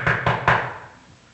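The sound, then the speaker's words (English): Three quick, evenly spaced, firm knocks on a door, each with a short hollow ring before it falls quiet. “He goes and knocks on the door.”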